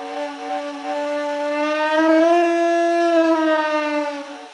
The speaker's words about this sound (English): So I'm quite happy because it has the pitch of a human, but then it's still a roar. You can hear the vibration of it's like an animal's voice.